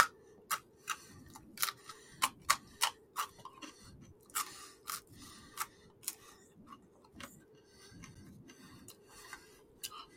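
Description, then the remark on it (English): Crunchy pizza crust being chewed: a series of sharp, crackly snaps at an irregular pace over a soft, muffled chewing rumble, with no talking. “Hear how it sounds? Crust. Crunchy crust.”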